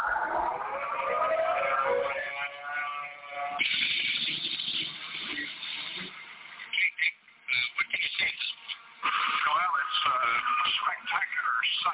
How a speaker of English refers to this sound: Metro Louisville, Jefferson County, including Meade, we have a tornado reported on the ground in the Brandenburg vicinity. It's headed toward Louisville. We think the siren should be activated at the present time.